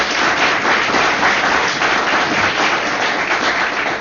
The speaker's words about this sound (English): Well, let's give all those coaches some applause, huh? And let's give the students some applause.